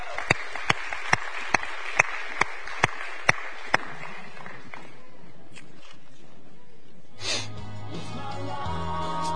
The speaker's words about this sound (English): Y'all come give with a big round of applause.